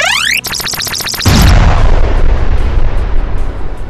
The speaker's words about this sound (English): Remember, holding down the fire button for the weapon will charge it up for a more powerful attack. Like this?